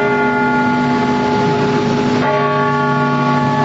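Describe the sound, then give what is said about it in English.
Church bells ring at noon in Louisville, Kentucky, in unison as called for by Governor Andy Beshear during the coronavirus crisis, loud and steady, their sustained tones overlapping in a rich, resonant wash with a fresh strike partway through, and no voices. “Finally, at noon, coronavirus-inspired church bells are ringing in Louisville, Kentucky.”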